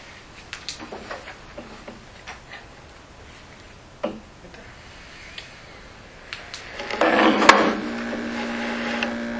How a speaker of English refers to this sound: I'm going to squeak the bench here. Shifting around.